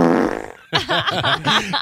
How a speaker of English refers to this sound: Am I the only one that thinks, I mean, obviously fart noises are funny and talking about pooping yourself is hilarious,